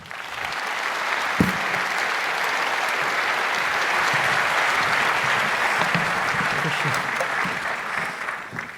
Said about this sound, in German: Bitte einen sehr herzlichen Applaus für die beiden.